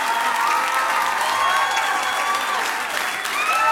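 Sustained applause from a large crowd for the band members, dense steady clapping with a few cheers and whistles mixed in, filling the whole stretch at a loud, even level.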